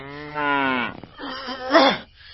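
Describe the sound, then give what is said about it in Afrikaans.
A cow moos twice up close, a steady low bellow followed by a louder, wavering moo that rises and falls in pitch, with no talking. “Mal koei, ga uit!”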